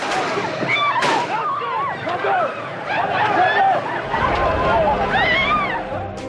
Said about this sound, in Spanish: Esto que acabamos de escuchar son los dos disparos que Aliatka lanzó el 13 de mayo de 1981 contra Juan Pablo II, cuando el Papa, que había venido de Polonia, se encontraba subido en el Papamóvil, en la Plaza de San Pedro, en el Vaticano.